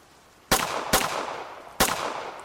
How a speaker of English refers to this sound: Gunshots rang out through the church.